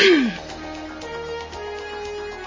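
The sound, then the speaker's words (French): A single loud, brief cough bursts out at the very start, then fades into a quiet background of soft sustained tones with no talking. “Excusez-moi, j'ai une petite toux qui me dérange.”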